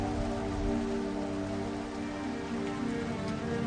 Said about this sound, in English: But it's raining.